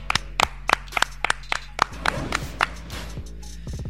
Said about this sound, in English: Clap it up.